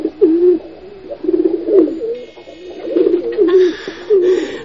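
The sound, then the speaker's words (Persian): A white pigeon with a broken leg coos in a series of low, throaty, rolling phrases, pausing briefly between calls, with faint background noise and a few higher chirps in the latter half. “چشم با یک کبوتر سپید افتاد که در گوشی شیشته و لبرویش کشال است و پایکشم شکسته و قرار چرت میزنم.”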